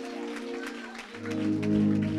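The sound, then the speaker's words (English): An audience claps their hands in a loose, scattered rhythm over sustained organ-like chords, and the music swells fuller and louder halfway through. “Clap your hands all over this room. Let's give God praise.”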